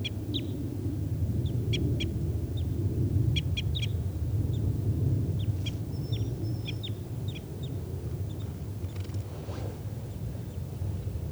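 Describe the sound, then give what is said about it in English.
A wild bird, a red male perched in the trees right by a net, calls in short, high chirps, often in quick pairs or clusters, repeating irregularly over a steady low rumble; no one speaks. “And there's a wild type 5 bird here, Step. So recording tubes of that wild bird.”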